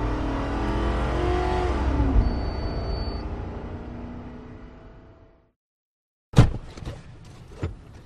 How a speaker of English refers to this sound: When he sees a white Toyota Camry roar by at 61, on come his lights and he plows over the median.